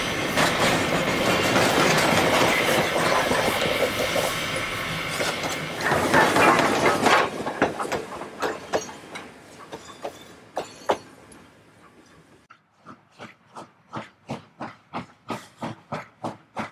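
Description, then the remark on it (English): A coal-burning steam locomotive roars past with a dense hiss of steam, then fades into a steady series of rhythmic chuffs and clanks as the train rolls on. No voices are heard. “One also gets to see some nice fireworks at night when the unburned coal is spewed out of the locomotive chimneys.”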